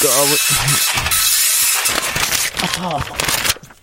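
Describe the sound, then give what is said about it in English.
A rough, crackling mechanical whirring runs steadily throughout as a slow printer grinds away, while a frustrated voice shouts over it in short bursts. “Stupid printer! We've got show to do here. Stupid, stupid printer! Come on! I hate this printer!”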